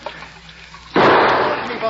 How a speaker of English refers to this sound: Somebody put a bullet right into the water skin. It's leaking out.